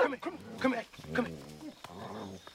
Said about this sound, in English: I got a dog eat your behind up. Now, Homer, come here. Come here, boy.